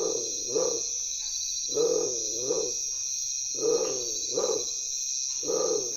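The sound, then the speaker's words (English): Deep, growling calls of a bird with tiger-striped plumage, heard close up at a camp by firelight, come in repeated double bursts, each rasping note sounding like a big cat's grunt, over a steady high-pitched insect drone. “Undoubtedly, the name was derived from the plumage having a tiger-striped pattern, but the moment you hear its voice, you can't help think of a large cat.”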